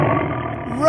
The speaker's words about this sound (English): Stop. Listen. What's that? It's a tiger!